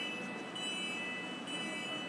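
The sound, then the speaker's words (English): A train creeps slowly into a station, a steady low rumble with a thin, sustained high-pitched whine over it, continuous and moderately loud, with no one talking. “There's a train creeping in.”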